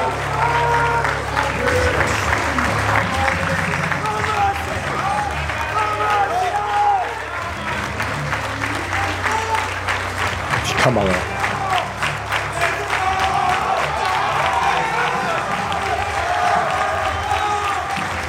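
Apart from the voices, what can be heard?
audience applauding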